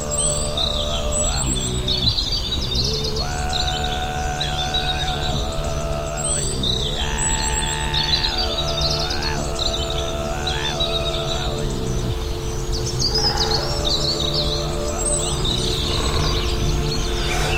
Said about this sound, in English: the very tip top of almost every single one, is a bird calling. Each bird that's holding a territory seems to have its own little songpost perched right on the top of these tallest of trees. And they're just singing their hearts out, it's fantastic.